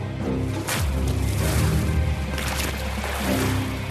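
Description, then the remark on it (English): Water is thrown onto people during an interrogation, sloshing and splashing loudly, with sharp bursts of dousing about a second apart over a continuous rushing, churning background. “They threw water on us.”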